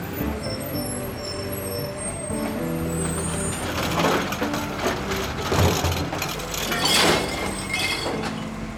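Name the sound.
garbage truck emptying bins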